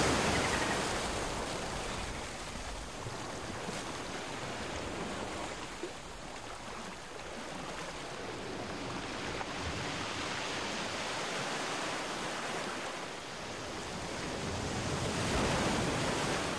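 Steady ocean surf washes ashore in a continuous broad hiss, with waves swelling louder near the start and again toward the end. No voices, just the constant rush of water.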